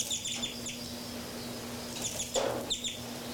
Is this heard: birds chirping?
yes